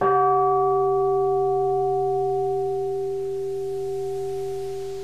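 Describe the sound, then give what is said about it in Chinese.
A single deep, heavy stroke of the Big Ben clock bell, the first chime of midnight, strikes once, then its rich tones hum on and slowly fade across several seconds, loud and alone with no voices. “突然间在这个时候，大笨钟的钟声响起来啊，敲响午夜的第一下钟声。”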